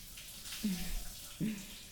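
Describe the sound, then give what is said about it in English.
Steady hiss of shower water running continuously as two people stand under it together, with two brief low murmurs rising faintly beneath the spray. “Feels nice just standing under the water with you.”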